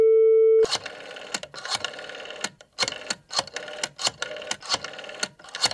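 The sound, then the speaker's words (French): A steady electronic line tone hums for under a second, then a telephone handset is picked up with a clack, followed by several seconds of close, busy rattling and clicking handling noise. “Je m'approche du téléphone. Je décroche.”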